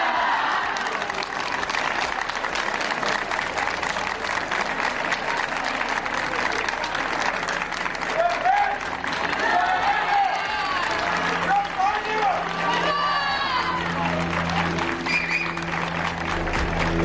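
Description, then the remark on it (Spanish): A large crowd in Zamora, Spain, welcoming the King and Queen, applauds steadily throughout, with cheers and shouts of "¡Vivan los Reyes!" and "¡Viva España!" rising over the clapping in the second half, loud and continuous. “Pues justo todo lo contrario del recibimiento que han tenido hoy los Reyes, al grito de ¡Vivan los Reyes y viva España!”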